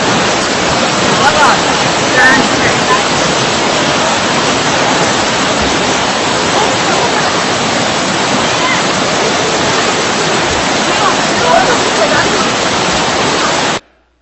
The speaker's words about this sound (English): We're going to play another video because Mount Hermon is melting snow. And this, I love this. Listen to the water, pure, fresh, and cold, that I took a picture here when we were at Dan this time.